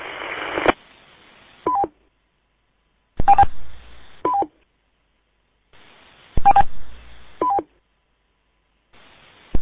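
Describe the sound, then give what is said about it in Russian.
Telephone keypad tones beep in short bursts, a few quick dual-tone blips repeating in a loose pattern every few seconds, with hissy line noise between them and no one talking. “Это, ну завязывайте пикать туда-сюда.”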